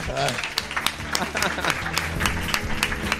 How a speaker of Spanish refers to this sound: Un aplauso a ella.